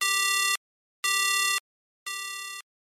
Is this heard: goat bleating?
no